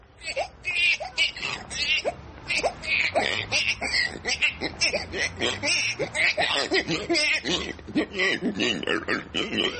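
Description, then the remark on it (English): A voice mimics a baby's cries gradually morphing into pig-like squeals and snorts, a loud, choppy run of vocal bursts lasting about ten seconds with no ordinary speech. “How about a baby turning into a pig?”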